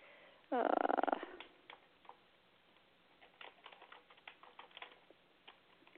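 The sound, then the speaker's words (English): Rapid, uneven clicking of someone typing a note on a computer keyboard continues for several seconds, clear, after a brief loud tonal cry at the very start. “You can hear me typing away, right?”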